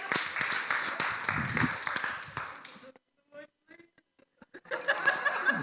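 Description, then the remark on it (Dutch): A burst of group applause, dense and crackling, lasting about three seconds, then a pause with a few chuckles and scattered claps before the clapping swells up again briefly at the end. “Zullen we een applaus geven?”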